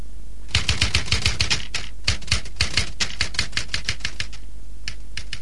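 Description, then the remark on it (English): Rapid mechanical typewriter keystrokes clack in uneven, crisp bursts, with a brief pause near the middle before the typing resumes. No voices. “Listen, is this a typewriter? Yes. Yes, it is.”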